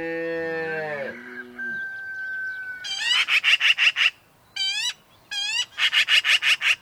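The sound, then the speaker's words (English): On a cool morning in the ranch country of the West, a single long, deep cow moo opens the scene, followed by bursts of harsh, rapid chatter from a black-billed magpie repeating in quick clusters, with no one talking. “It's a cool morning in the ranch country of the West.”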